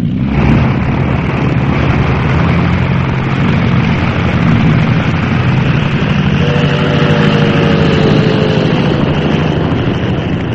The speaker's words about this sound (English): Taking off from the Naval Aviation Base in San Diego, California, about 2:20 on the afternoon of January 10, the six planes of Flight Squadron 10F, U.S. Navy, were heading, Naval authorities said, toward Hawaii, in nothing more than routine movement